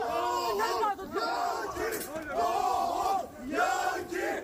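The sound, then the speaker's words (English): A mob in Turkey holding two U.S. Marines shouts an angry chant in loud, rhythmic bursts, the rising and falling phrases repeating over a dense, continuous roar of voices. “support for Israel, the crowd held the Marines while chanting there, as you heard.”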